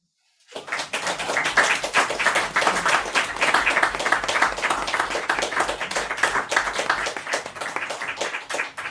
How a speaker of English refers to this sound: I appreciate the clapping. I think it's really helpful because you're so far away to know that, yes, you heard that, you received it. Thank you.